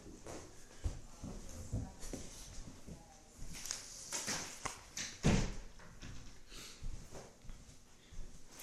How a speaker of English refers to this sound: So yeah, is it possible to shut that door? Yeah.